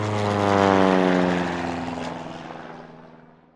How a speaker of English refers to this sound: That is the first plane that ever flew, says Mama. It doesn't fly very high, says Sister. Or very far, says Brother. But it does fly, says Papa.